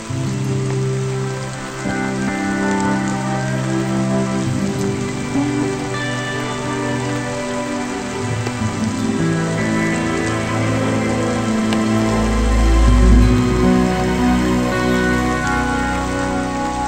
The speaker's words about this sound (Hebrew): גשם מתחיל לרדת ומנקה אותו.